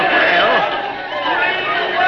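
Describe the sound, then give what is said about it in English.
A large crowd chatters and clamors continuously, a dense wash of overlapping voices at steady, fairly loud volume with no single speaker standing out. “Oh, listen to that crowd.”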